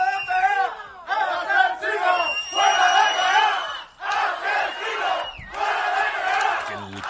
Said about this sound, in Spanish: Provocó lo que estás escuchando, una reacción popular con manifestaciones pacíficas en las calles que terminaron no tan pacíficas, con algunos altercados, coches volcados, intentos de ataques a las casas de las familias de los acusados, en fin.